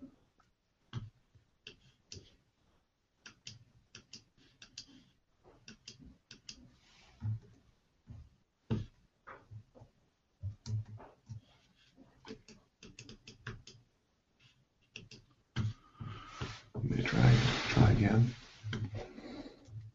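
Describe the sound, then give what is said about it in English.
Irregular runs of sharp computer mouse clicks tapping away in quick bursts, with a louder rustling, scraping noise swelling up near the end. “I'm clicking on it and it's not responding.”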